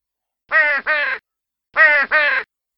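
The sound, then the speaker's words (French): A crow gives weak caws four times in two quick pairs, each call short, harsh and nasal, with a brief pause between the pairs. The calls are fairly clear, with no other sounds around them. “Après avoir ainsi réfléchi, il poussa de faibles cris à plusieurs reprises.”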